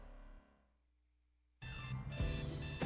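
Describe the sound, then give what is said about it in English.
A loud, harsh alarm clock blares on abruptly after a short stretch of near silence, its buzzing electronic tone sustained and steady through the end. “Wake up and text.”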